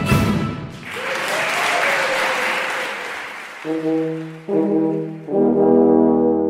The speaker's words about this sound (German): Gleichzeitig werden wir natürlich bei einem Konzert auch vom Publikum begrüßt. Die begrüßen uns mit einem Applaus, dass sie sich freuen, uns zuzuhören und bedanken sich dann am Ende auch mit einem Applaus.